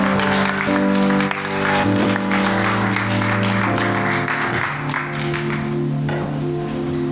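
An audience at a church audience applauds steadily and warmly for several seconds, welcoming a guest, the dense clapping loud, while sustained music plays underneath.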